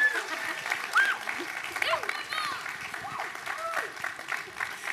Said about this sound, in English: All of our campuses, will you put your hands together for my bride,